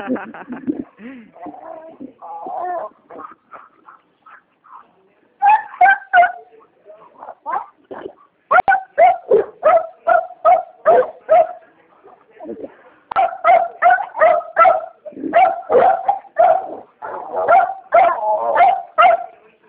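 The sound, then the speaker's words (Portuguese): Dogs bark repeatedly in rapid, overlapping bursts, with some higher yips and whimpers mixed in, loud, continuing almost nonstop with only brief pauses. “Com os cachorros de pé de mim, viu? Você fala, cala a boca, é coisa.”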